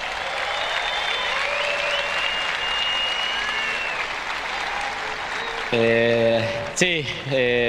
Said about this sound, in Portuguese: Un aplauso, por favor,